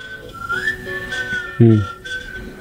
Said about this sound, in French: Sifflement aussi, ça peut être triste.